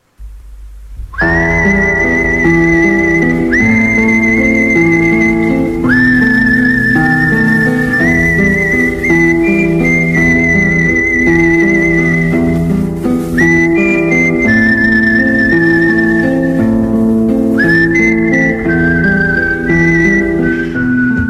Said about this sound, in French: Mais déjà, bon, pas de silence, on va siffler un peu.